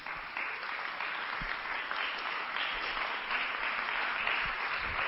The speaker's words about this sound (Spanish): Un aplauso también, por favor.